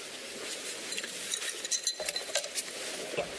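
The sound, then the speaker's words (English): Ice tinkling in the water glasses of the president's lawyer during his opening: a scattering of light, high-pitched clinks and ticks at an irregular pace over a steady low hiss, with no one speaking. “Listen to the sound of the ice tinkling in the lawyer's water glasses.”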